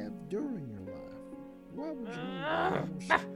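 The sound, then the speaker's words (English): Dogs whimper and whine in several drawn-out, wavering glides, building to a louder yelping stretch and ending with one sharp bark. No one speaks. “Wait, are those dogs I hear?”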